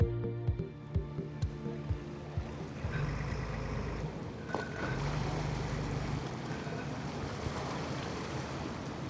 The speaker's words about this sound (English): This is Central Europe's third largest lake, and that is clear just by the size of the sailboats pushing forward through subtle white caps. On smaller lakes, you get smaller boats, but these are 30, maybe 40 footers.